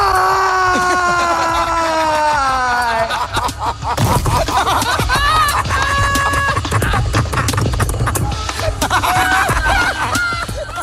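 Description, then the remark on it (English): A man screams "why" as hard as he can in a long, loud wail that slides downward in pitch, then falls flat on his face with a heavy thud, followed by rustling noise and scattered voices that sound like laughter. “I fell to my knees. I screamed why as hard as I could, and then fell flat on my face.”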